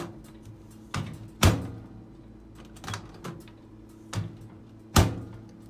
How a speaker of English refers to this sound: Here's the microwave opening.